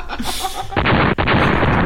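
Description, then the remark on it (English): Loud, illegal fireworks booming outdoors in a residential neighborhood: a hissing lead-in, then a sudden heavy blast at about three-quarters of a second, followed by sustained crackling rumble with a brief second pop. No one speaks. “my neighborhood has had a non-stop supply of very illegal loud fireworks.”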